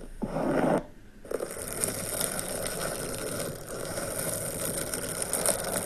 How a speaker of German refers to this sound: Also das sind übrigens lange Fingernägel, die an einem Luftballon krass kratzen. Ja, mir macht das was. Ja, ich krieg auch Gänsehaut.